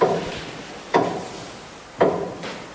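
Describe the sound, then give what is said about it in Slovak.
A fully working 1925 mechanical church tower clock made by Franz X. Beitelbern ticks: three sharp, woody clacks spaced about a second apart, each with a short ringing decay, over faint background hiss and no voices. “Musíme sa vydýchať, ale už počujem hodiny.”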